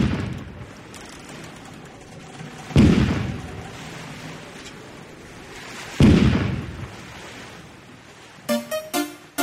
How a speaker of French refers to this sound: c'est au son du canon que l'on accueillit Tivanus et son équipage